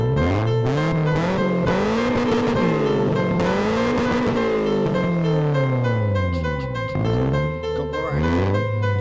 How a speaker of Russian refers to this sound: Твин турбо разрывает воздух 7000 оборотов.